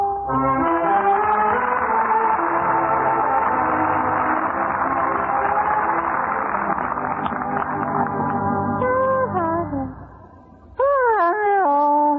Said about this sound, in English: Just a moment, …. Please, that yawning. Huh? That yawning. Yeah, that's what it was. Anything wrong with it? I believe your mouth was open.